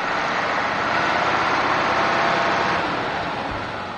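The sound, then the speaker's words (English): A diesel tractor engine idles steadily and loudly, a constant rumbling drone with a dense, noisy texture that holds even for several seconds before easing slightly at the end; Herb Smith's tractor on his family's farmland in Ida Township, Michigan. “Smith hops off his tractor and stands on the land that his family has farmed in Ida Township, Michigan, since 1865.”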